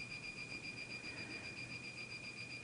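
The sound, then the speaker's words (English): A faint, high-pitched electronic beeping tone from something in a studio holds steadily in the background with no one talking, thin and piercing over a low murmur of room noise. “I don't know if you're hearing that beeping in the background, but there is something in this studio that's beeping, and if any of you out there in listener land know what it is and know that there's a button somewhere that can be pushed”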